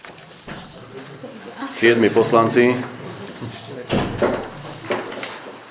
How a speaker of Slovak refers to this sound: Bukli dvere.